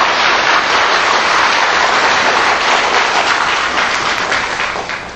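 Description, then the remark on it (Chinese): Steady, dense applause from a sizable crowd, a continuous wash of many hands clapping at even loudness before easing off slightly at the end, as the audience invites the master to give a teaching talk. “我们现在在以最沉静的心呢，我们恭请师父开示，我们鼓掌，谢谢。”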